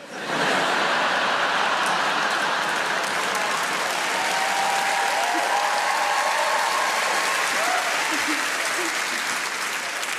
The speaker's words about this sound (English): It's weird to applause that, isn't it?